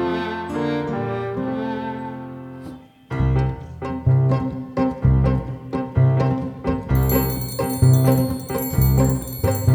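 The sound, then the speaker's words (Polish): A bright, ringing bell like an alarm clock joins a bouncy rhythmic musical backing in the final few seconds, after a sustained tonal opening and a steady pulsing beat. “A budzik to jest taki mały ludzik, co pomaga budzić ludzi, bez ociągania się tym trudzi.”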